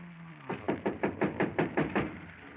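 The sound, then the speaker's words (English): A rapid, steady run of about nine knocks on a door, evenly spaced, with no voices; a faint low hum is audible briefly before the knocking starts. “Somebody at the door.”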